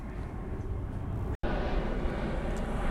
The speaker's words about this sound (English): Airplanes are a divine idea in the mind of God that have taken form in the material world. So has the airport. So as we're near the airport, as the planes go overhead, we recognize that these flying objects filled with people and packages